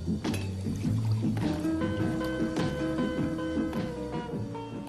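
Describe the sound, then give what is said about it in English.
Beer pouring steadily into a glass for several seconds, a continuous gurgling stream with a fizzy hiss, moderately loud, with no voices over it. “Shit, yes, pour the fucking beer!”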